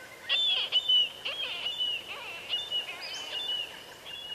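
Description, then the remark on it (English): Marbled murrelet calls, from a small seabird related to puffins: a quick series of sharp, high, keening cries, repeated several times over a soft steady hiss, clear, with no talking. “Most seabirds meet and breed in colonies, but marbled murrelets, little relatives of puffins, breed inland in old-growth forests.”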